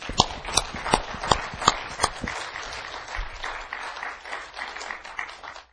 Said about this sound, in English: And this morning I'm going to ask you, along with myself, give Terrell Aaron Spear a round of applause.